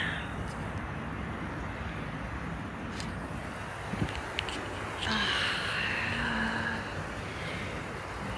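Heavy rain pours in a steady, dense hiss throughout, with a few faint taps early on and a vehicle swishing by on a wet road midway.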